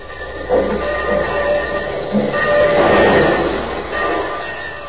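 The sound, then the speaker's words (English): A train rumbles steadily into Union Station, with a broad mechanical roar and brief high squeals like brakes or wheels on rails, fairly loud and continuous with no voices. “But first to the station. The train's just pulling in.”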